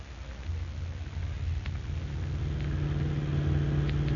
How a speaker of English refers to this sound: Get my car out of the garage. Hurry up.